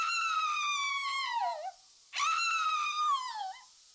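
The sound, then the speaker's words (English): A person screams in terror twice, each long, shrill cry sliding downward in pitch before breaking off, separated by a short gasp-like pause; loud with no talking. “Delight in the orgasmic sounds of their screaming.”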